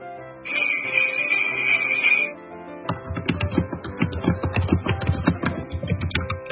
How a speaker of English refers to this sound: And that was the keyboard of death.